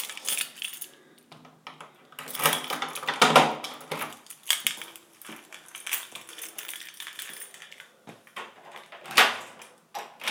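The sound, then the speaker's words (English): Keys jangle and scrape as the inner door of an apartment unit is locked, with metallic clinks and a couple of sharper clacks from the latch and handle, no voices. “I'm just going to lock this inner one first, even though I don't think I'll be gone long.”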